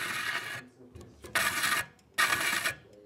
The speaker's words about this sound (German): Und jetzt schleift der linke Fühler, den rechten kann ich gerade nicht sehen, aber der schleift so ein bisschen dran, weil eben das Rad eine Unwucht hat.